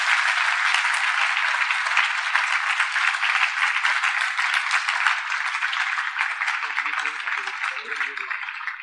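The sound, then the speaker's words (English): Loud, sustained applause from a crowd for Maharaj at a spiritual festival, a dense steady wash of many hands clapping that holds for several seconds at an even level, with faint voices surfacing briefly near the end. “So, once again, let us have a big, huge round of applause for Maharaj.”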